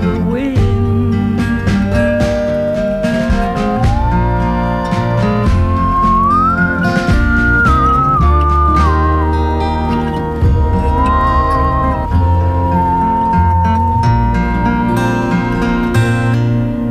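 A clear, sustained whistled melody glides up and down over a full instrumental backing, steady and fairly loud throughout, like the whistling bridge of a folk song recording from 2018.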